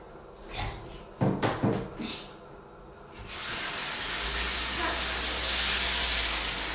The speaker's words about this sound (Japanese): じゃあちょっとね、汚しちゃったのでシャワーで洗い流したいと思います。